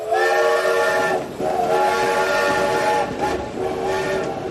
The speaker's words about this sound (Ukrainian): Додому, додому, додому вистукували вагонні колеса.